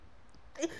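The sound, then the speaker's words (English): A single short sneeze bursts out after a moment of near silence, sharp and breathy but fairly soft. “Bless you.”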